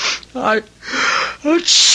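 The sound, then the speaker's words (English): A person sneezes loudly, twice: each starts with a voiced, rising intake followed by a sharp, breathy burst of air, with a final burst trailing off at the end. “God bless you. I've always liked this house. You're catching a cold.”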